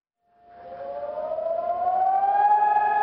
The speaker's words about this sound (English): This morning, like every year, a siren wailed throughout Israel to mark Holocaust Remembrance Day. When it happened, I was on a road straddling Israeli West Jerusalem and Palestinian East Jerusalem.